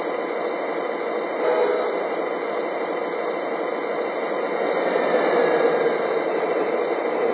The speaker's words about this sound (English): Tower, that priority freight just passed by and everything looked okay.